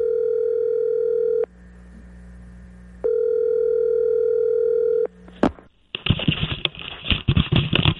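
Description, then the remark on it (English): A steady, mid-pitched telephone ringback tone sounds in two long bursts separated by a pause while a phone call is placed to Tiger Woods, then a sharp click as the line connects into loud, crackling static. “We have a phone number for Tiger Woods to see if he watched.”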